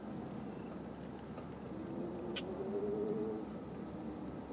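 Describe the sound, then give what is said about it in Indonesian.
Steady low road rumble inside a moving car travelling from Yogyakarta to Solo, Indonesia, with a faint rising whine and a brief faint click partway through; no one speaks. “Sekarang aku lagi di mobil mau ke Solo dari Jogja.”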